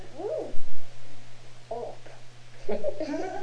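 A cat lets out several drawn-out, wavering meows in separate bursts, the last one longer and more strained like a yowl, over a steady low hum in the background.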